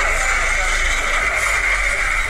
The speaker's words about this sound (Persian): ماشین های چاپ در یکی از چاپخانه های کابل روزگار بیشتر این ماشین ها روزانه برای ساعت ها فعالیت داشتند، اما با گفته مسئولان چاپخانه ها اکنون شماری از آنها از کار باز ماندند.